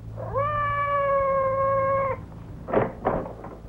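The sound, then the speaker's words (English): A cat outside the door, Madame's cat Francois, lets out one long, drawn-out meow lasting nearly two seconds, followed by a couple of short rustling or scuffing sounds, with a low steady hum underneath. “Did you hear anything? Outside the door. It sounded like Madame's cat, Francois.”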